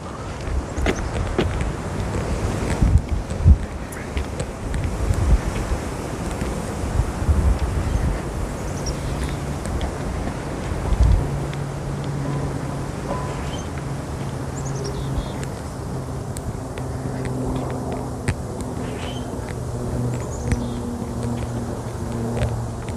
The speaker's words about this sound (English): It is a windy morning this morning.